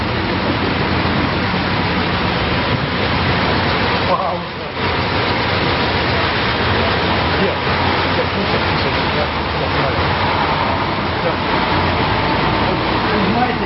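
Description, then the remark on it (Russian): A car stops with its engine left running, a loud, steady rumble filling the whole stretch with only a brief dip midway, while faint voices murmur underneath. “Мы можем все запланировать, все раз прекрасно запланировать, но проедет машина, и она полностью меняет, наше пространство, наше поле, наши даже планы.”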